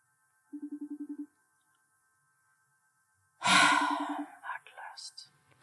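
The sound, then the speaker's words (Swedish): A phone ringing tone on an outgoing call pulses in a quick burst, goes quiet for a couple of seconds, then repeats beneath a loud rush of breathy noise and brief voice sounds. “Ja, vi kan kolla om hon svarar på mig.”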